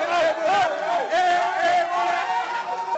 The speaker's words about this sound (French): La Guinée est qualifiée. Dans la capitale, les supporters du Sili National manifestent leur joie.